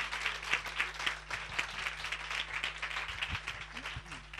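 A crowd applauds steadily, many hands clapping in a dense, crackling wash that holds a fairly even loudness throughout, with a few sharper individual claps standing out.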